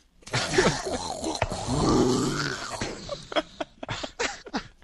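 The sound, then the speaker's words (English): A person makes a breathy, rumbling vocal roar meant to imitate thunder as a God voice, lasting a couple of seconds and sounding more like a strained gasp, followed by a few short, sharp bursts. “That was supposed to be thunder, but, you know, but it... it came out like I was, like, gasping for air or something.”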